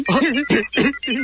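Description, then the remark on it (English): A telephone at radio station The Rocket rings with an electronic, warbling tone in three quick, evenly spaced bursts, fairly loud, with no one talking over it, as a caller phones in to play a poker game on air. “quiet, it's ringing.”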